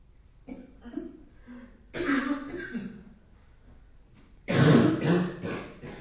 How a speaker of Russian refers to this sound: Вот как видите, на тройке, вы еще не дошли до тройки, уже бронхит у всех начался. Кашляйте лучше, кому хочется кашлять, не давите, потому что человек еще давится, сдерживает, кашляет энергетически еще хуже. Поэтому лучше уж кашляйте.